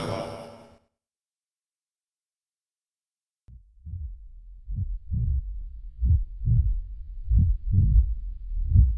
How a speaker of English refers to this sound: Only one heartbeat. Oh, goodness. One of them stopped.